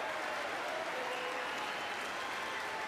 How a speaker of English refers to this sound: And by the way, I noticed some of you have strongly voted against it, or they're cheering on that money coming in. I like it. I'm with you.